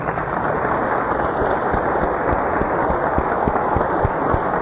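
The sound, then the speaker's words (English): A church audience gives a hand clap for Jesus, steady, dense applause, a continuous wash of many hands with no voices standing out, holding at an even loudness throughout. “Why don't we give Jesus a hand clap?”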